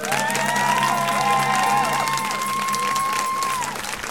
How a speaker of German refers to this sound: ich, der hier mit einem donnernden Applaus empfangen wird.